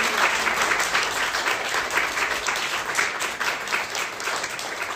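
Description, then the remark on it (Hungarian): An audience applauds at the close of a talk about a book: dense overlapping hand claps forming a continuous, fairly loud wash of sound with no voices standing out. “Köszönjük, hogy itt voltatok, egy nagy tapsot szeretnék elvinni”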